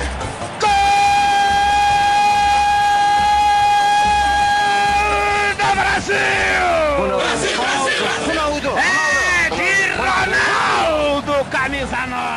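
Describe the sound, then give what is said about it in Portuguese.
A commentator's long, loud goal shout held on one steady note for about five seconds, then breaking into fast, excited shouted commentary over crowd noise, celebrating Ronaldo's second goal past Kahn, which secured Brazil's fifth title. “Se eu fosse um cantor, faria de um grito de gol uma ópera. Como não posso, eu grito.”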